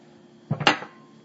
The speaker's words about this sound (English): Now I'm moving towards the kitchen. Getting glass.